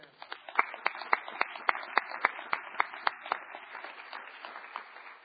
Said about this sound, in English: We won't have you introduced, but we just want to give you a round of applause, those who will be having graduates. So if we could congratulate all of them at this time.